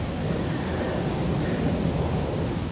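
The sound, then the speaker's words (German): A steady, low roar of an airplane passing overhead, a continuous rumbling drone that holds an even loudness throughout, with no voices. “Ja, jetzt höre ich Flugzeuge.”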